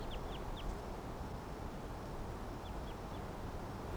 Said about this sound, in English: Wild birds in the background.